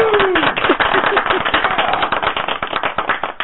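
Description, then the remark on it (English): A canned applause sound effect played from a clapping button as a round of applause: a dense, steady crowd of rapid claps running the whole time at an even loudness, with a brief whistle-like tone near the start. “So, you know, I think Victoria, if you can find that clapping button, I think Miss Parsini needs a round of applause.”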